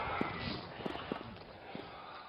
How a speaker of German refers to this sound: Das ist mein eigener Sound, den ich produziert habe mit meinen Schritten. Und ich komme mir dann dabei vor, auch fast wie so eine Nadel von einem alten Plattenspieler, der ganz sensibel die Umgebung abtastet.